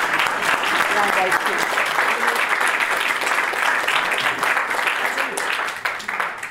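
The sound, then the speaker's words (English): A crowd at a launch event gives a round of applause, sustained and loud, with many hands clapping in a dense, steady wash throughout before it starts to thin out at the very end. “But I think a round of applause for our rural.”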